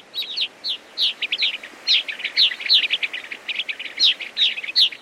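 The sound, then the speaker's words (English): A flock of hundreds of gray-crowned rosy finches calls continuously as they come to roost at sunset in a colony of abandoned cliff swallow nests on a rock cliff, many short high chirps overlapping in quick, irregular bursts, lively, with no voices. “They are gray-crowned rosy finches coming to roost for the night in an extensive colony of abandoned cliff swallow nests.”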